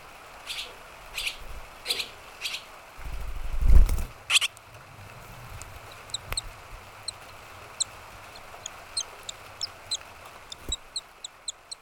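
Baby swallows being fed cheep in shrill, rapid bursts, with a brief noisy flurry early on, then scattered high peeps over a steady soft hiss of falling rain.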